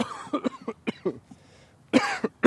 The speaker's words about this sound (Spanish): Y, un momento que toser.